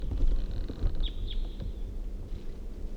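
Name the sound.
crossbill flight calls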